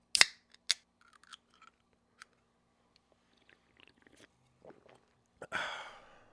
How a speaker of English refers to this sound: let's take a quick sip break.